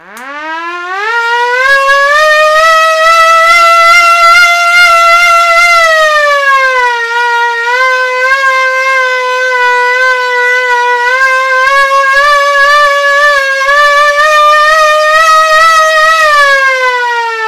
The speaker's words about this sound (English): The sound of the siren just sort of gets wider and more full, pretty much, less muted. And here it is with all the chambers open.